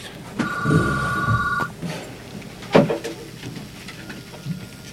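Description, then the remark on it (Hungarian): A telephone rings once, a steady electronic trill lasting just over a second, followed by a soft clunk and quiet room noise, with no one speaking. “Még vannak nálatok, fölteszem a kérdést a telefonra után szerintem.”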